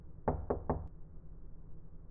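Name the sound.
knocking on a door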